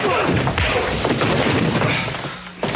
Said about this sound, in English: So the sheriff took two punches.